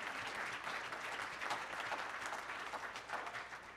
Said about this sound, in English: This church is blessed because it has sat under a man who took the scripture seriously. That's right, you can clap for him. It's okay.